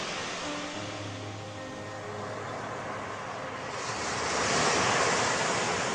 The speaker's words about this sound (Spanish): Las olas, ahora pacíficas, ahora tumultuosas, te pido el reino de tu fiat.